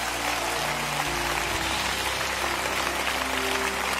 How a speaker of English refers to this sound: One more hand clap, Lakewood, they're still standing all over.